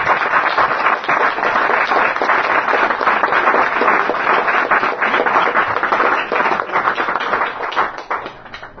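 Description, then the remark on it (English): An audience claps together in a dense, steady burst of applause that holds at full strength for about eight seconds, then starts to thin out and fade at the end. No one speaks over it. “So on that note, I'd like to end, and perhaps, I know, we can clap, but and then I'd like to introduce a couple of people to you all.”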